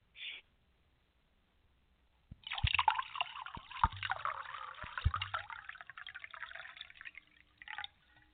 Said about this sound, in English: I know someone's listening is going to need some wine, so let me, I will pour them a glass of wine so they can listen to this.